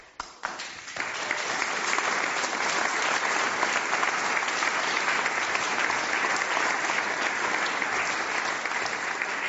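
An audience breaks into applause, starting with a few scattered claps and quickly swelling into steady, sustained clapping from a large crowd that holds at an even level throughout.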